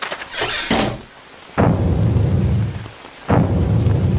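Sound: rain with thunder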